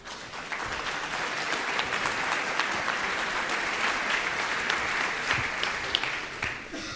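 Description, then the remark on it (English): Sustained audience applause welcoming a paleo artist onto the stage to give a talk, a dense wash of many hands clapping at a steady level for several seconds, with no one speaking over it. “I ask you to give a warm welcome to Joshua Knuppe, paleo artist.”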